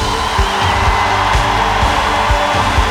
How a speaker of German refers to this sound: Also einen riesen Applaus an meine Tänzer!